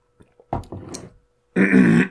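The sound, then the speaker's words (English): A person clears their throat twice: a rough, raspy burst, then after a short pause a louder, harsher hack, with no talking. “Clearing my throat again.”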